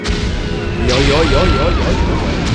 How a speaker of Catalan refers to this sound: Un any després de l'inici de la guerra, dues bombes alemanyes esclaten al seu jardí a pocs metres d'ell.